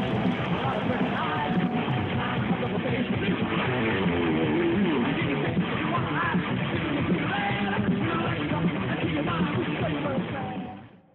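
A large crowd at a 1980s stadium concert in Puebla applauds, cheers and screams continuously, a dense wall of yelling and whooping voices that stays loud and steady for several seconds before cutting off abruptly at the end.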